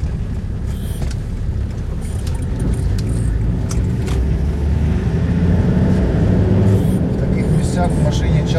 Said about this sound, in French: Dans de tels endroits, il faut souvent conduire la voiture avec la fenêtre ouverte, juste pour que lorsque vous entendez un coup de feu de l'artillerie, vous puissiez deviner qu'un projectile a volé quelque part.